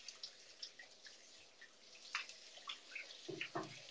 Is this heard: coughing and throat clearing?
no